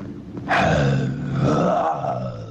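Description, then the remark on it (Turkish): A person imitates a dinosaur roar with a low, rumbling, closed-mouth growl. It swells suddenly, holds loud for about two seconds, and wavers in pitch, with no other sounds. “Dinozorla ağızları kapalı bağlıyorlarmış derken şey ağızları kapalı kükrüyorlar.”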